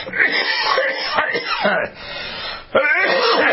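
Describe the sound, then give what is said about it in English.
A person coughs and clears their throat in a harsh, raspy run lasting a few seconds, with brief pauses between the loud, gravelly bursts. “You still haven't gotten rid of that cough?”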